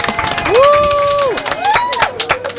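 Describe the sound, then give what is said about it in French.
A crowd applauds for Janice Amri with dense, steady clapping while loud whoops and cheers ring out over it, one long sustained shout followed by a shorter one. “Et on va faire un tonnerre d'applaudissements pour Janice Amri qui est là.”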